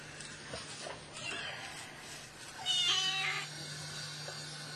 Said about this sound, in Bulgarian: Добре, колко е голямо това коте? Колко месеца?